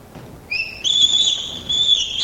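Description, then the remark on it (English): A bonobo's scream: a very high, piercing, whistle-like cry that steps up in pitch and holds steadily for nearly two seconds, loud, with no other sounds around it. “Very high, piercing sound from bonobo.”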